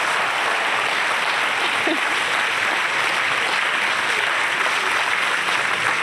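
Steady, sustained applause from an audience at the Sydney Writers' Festival for writers Samantha Harvey and Caradwen Davey, a dense wash of many hands clapping at an even loudness for the whole stretch, with no voices rising above it.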